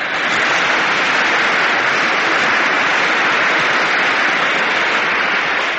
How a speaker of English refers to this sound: And now we have a song by that lovely, vivacious, charming personality, none other than... your obedient servant, …. You may applaud if you care to.